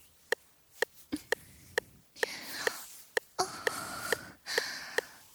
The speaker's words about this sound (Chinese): 我的喘息声好听吗？